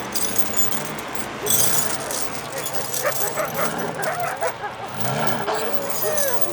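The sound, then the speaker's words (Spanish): Wolves yelp and whimper in a restless, overlapping chorus, with short barks and rising whines over a steady noisy background, plus a brief metallic jingle. “¡Encadenen esos lobos y denles de comer!”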